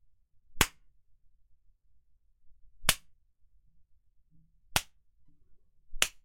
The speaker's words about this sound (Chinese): 果然呀，只有挨鞭子了，贱狗才会听话。